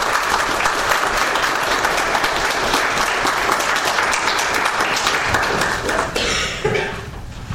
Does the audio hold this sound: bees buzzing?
no